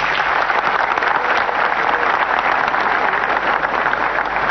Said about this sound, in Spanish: Para todas esas instituciones, vaya ese aplauso fuerte y un Dios se lo pague también.